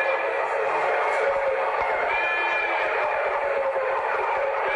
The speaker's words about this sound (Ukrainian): Бій законодавців супроводжувався сиреною та свистом.